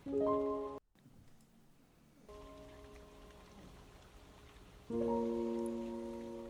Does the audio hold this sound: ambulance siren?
no